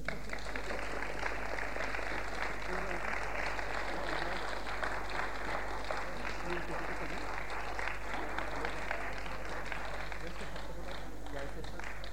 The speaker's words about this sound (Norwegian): Utdele noen blomster til det avtroppende styret. Dette da som en takk og en påskjønnelse for en fantastisk innsats som de har gjort i høst. En klapp for dem.